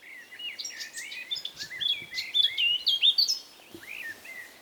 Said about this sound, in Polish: A tam dalej mamy kosa. Z kosami, czy ich kuzynami, drozdami, śpiewakami jest tak, że one lubią śpiewać wczesnym ranem i późnym wieczorem.